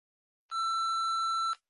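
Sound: answering machine beep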